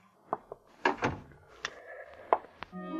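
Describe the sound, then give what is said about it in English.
A door swings shut, closed by a man holding a gun, with a cluster of clunks and latch clicks, a heavier thud in the middle and a few sharp knocks after, with no one speaking. “After he closed the door, the man with the gun switched on the lights.”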